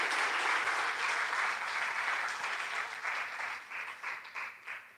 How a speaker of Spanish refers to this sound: Y dale un fuerte aplauso a esta promesa.